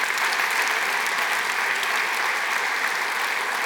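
An audience breaks into sustained applause, giving the Lord a hand clap of praise, many hands clapping in a dense, steady wash that holds evenly loud throughout, with no voices standing out.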